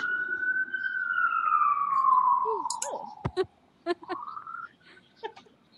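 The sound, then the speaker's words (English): A huge fire engine's siren wails as it rolls past an apartment, its pitch sliding slowly downward for a few seconds before rising again, fairly loud, with brief clicks and faint voice sounds breaking in. “That's perfect, because there was a huge fire engine that rolled by my apartment.”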